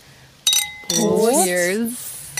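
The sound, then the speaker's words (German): Two bright glass clinks in quick succession as drinking glasses meet in a toast, ringing briefly and fairly loud, followed by a person's voice speaking over the fading chime. “Wollen wir nochmal prosten, bevor wir anfangen?”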